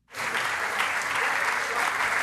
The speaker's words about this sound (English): Yep, those are scientists at the European Space Operations Center in Darmstadt, Germany. They're clapping because their spacecraft just crash-landed, as planned, onto a comet.